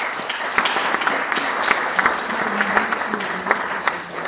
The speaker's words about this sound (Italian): Lo accogliamo con un applauso.